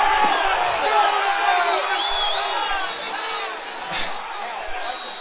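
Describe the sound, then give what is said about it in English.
A huge stadium crowd at a Vikings football game screams and roars continuously as an official rules the Vikings still have the ball, a dense wall of voices that stays loud throughout, easing slightly midway before swelling again with scattered whoops and shouts. “The official, what you hear the screaming about,”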